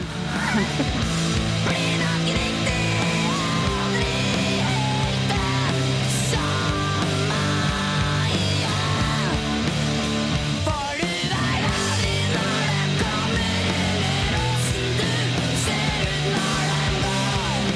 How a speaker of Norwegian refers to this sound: Så den kan du jo spille en snutt av hvis du vil. Det en ganske hardcore låt som vi spilte inn der. Kult. Skikkelig tunge, hard og ordentlig skriking.